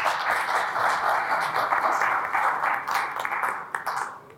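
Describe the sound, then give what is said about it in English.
An audience applauds steadily for a few seconds for guest speaker George Barrow of Polar Capital, a dense wash of many hands clapping at once, sustained and fairly loud before thinning slightly toward the end. “Can give George a round of applause, please.”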